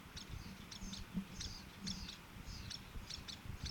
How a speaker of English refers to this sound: I assume, therefore, that these chip notes of the adults are alarm notes.